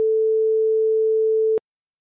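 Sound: busy tone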